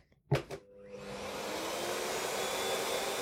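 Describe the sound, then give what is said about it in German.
A couple of sharp clicks as a vacuum cleaner is switched on, then its motor spins up into a steady, fairly soft whooshing drone with a faint whine, running on its own without talk; recorded with the microphone held at head height, about 1.70 m, in front of the vacuum. “Also ist auf jeden Fall mindestens um die Hälfte leiser als unser alter Staubsauger und das finde ich total irre.”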